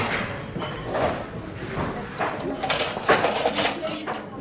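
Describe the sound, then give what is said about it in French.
Metal cutlery, large spoons, knives, forks and fish cutlery, clinks and clatters repeatedly as hotel and restaurant management students lay it out on restaurant tables, sharp bright clicks in an irregular rhythm, with a faint murmur of voices in the background. “Dans l'autre, tu me remets les couverts entre mes ici. Et couvert à poisson à suivre.”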